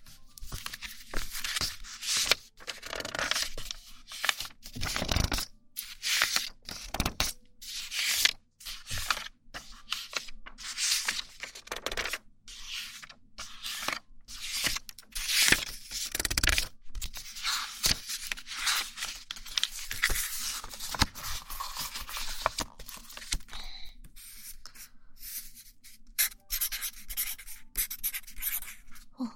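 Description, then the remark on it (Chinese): A small double-ended marker pen scratches and squeaks across paper in irregular bursts of strokes, with short pauses between words, continuing steadily for about half a minute with no talking. “记号笔的质感好听，你写了一个报告，对，写，我爱你”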